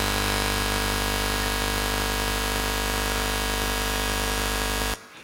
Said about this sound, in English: That seems to be the alarm for overtime. Either it was an intentional or it was a divine reminder.